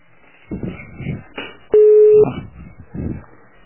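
A single steady, mid-pitched telephone busy tone sounds loudly for about half a second as a call to a woman goes unanswered, set among softer murmuring voices before and after it.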